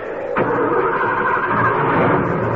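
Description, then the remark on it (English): A car that has just crashed into boulders has its engine catch abruptly, then keep running with a steady, loud, rumbling roar that fills the rest of the moment, with no voices. “Will the car move?”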